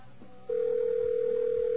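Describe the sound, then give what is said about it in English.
A telephone call to AT&T ringing with no answer: after a brief quiet hiss, a steady, mid-pitched electronic ring tone starts and holds unbroken to the end, fairly loud, with no voices. “People think they're reaching AT&T, and they're not picking up the phone.”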